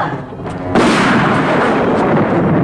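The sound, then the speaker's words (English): A sudden loud burst of gunfire erupts after a brief murmur, continuing as a dense, rattling barrage of rapid shots that holds steady for about two seconds, in an entry hall. “Sydney points his gun. Stand back or we'll fire!”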